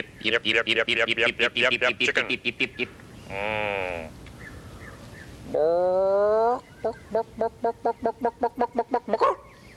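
Loud chicken clucking in fast, rhythmic bursts, broken by two longer drawn-out squawking calls before the quick clucks resume.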